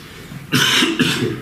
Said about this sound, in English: There's that cough.